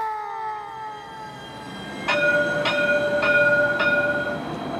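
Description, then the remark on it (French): A steam train rumbles along the rails, a whistle-like tone sliding downward before steady, evenly spaced clacks of wheels over track joints ring out under a sustained tone. No one speaks. “Est-ce que vous avez déjà entendu parler des trains à vapeur ?”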